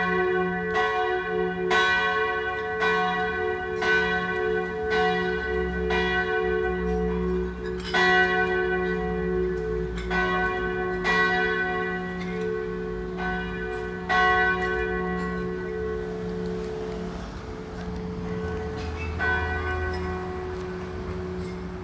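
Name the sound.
church bells ringing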